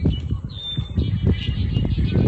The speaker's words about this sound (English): And I should have led into this without any words attached, but he sent in some bird sounds.